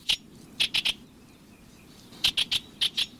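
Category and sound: bird, bewick's wren song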